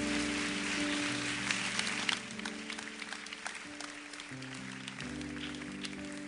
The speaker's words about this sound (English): Isn't God great? Let's give him a hand clap of praise.